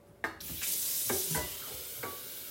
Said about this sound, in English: All right, I'm going to put a little water in here. Let me move the iPad a little bit closer. Okay, let's put a little water in here.